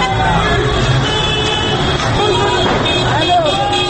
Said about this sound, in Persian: یک گروه از موتوری های ضد شورش از بالای خیابان می آیند و با سر و صدای زیاد از کنار مردمی که در پیاده رو ایستاده اند می گذرند. پلیس هایی که ترک موتور نشستند با لگد و باتوم راه باز می کنند و می روند طرف چهار راه ولی عصر.